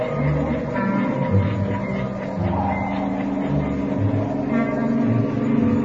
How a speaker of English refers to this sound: It's nothing. Thought that passing car was turning in the alley.